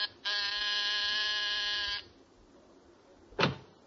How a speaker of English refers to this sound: There's a pair of martinis and a good dinner under your belt at 10 o'clock as you press the buzzer outside his apartment.